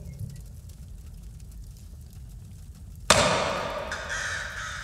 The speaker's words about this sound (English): What was that? It's probably just a bird. There is no way, just a bird.